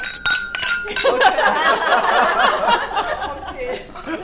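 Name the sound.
glasses clinking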